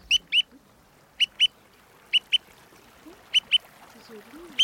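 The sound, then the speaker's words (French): A bird-call whistle imitates a woodcock: four evenly spaced pairs of short, sharp, high squeaky chirps, fairly loud against a quiet background. “Alors je vois des appôts de bécasse.”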